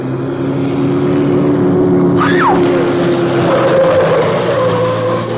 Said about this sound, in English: As she watched, car light suddenly showed far back in the drive, moving swiftly toward the street.